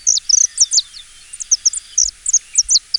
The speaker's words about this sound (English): Native to South America, they were introduced to Hawaii in the early 1960s, mainly because of their colorful plumage and their pleasant whistle-like songs.